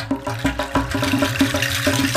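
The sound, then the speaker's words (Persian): A water faucet sputters and rumbles, with irregular gushing bursts over a low, shaky rumble, loud, no voices present. “یک دفعه صبر شیر آب سر اومد، لرزید و قر زد و صداش در اومد.”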